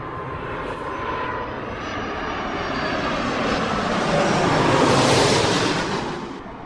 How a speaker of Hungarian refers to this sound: Airbus A330-as, tehát egy széles törzsű, nagyméretű teherszállító repülőgép. Most ért földet. És most ért földet.